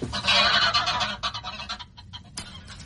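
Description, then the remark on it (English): A captured goose honks and squawks loudly and harshly in a rapid, agitated series, with scuffling and flapping noises as it struggles, fading slightly before a final sharp squawk. “and carried the bird off to my place in Kilburn.”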